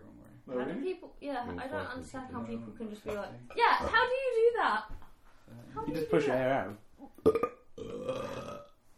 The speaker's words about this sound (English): I don't know how to burp. Without like it, my mouth being shut and not meaning to.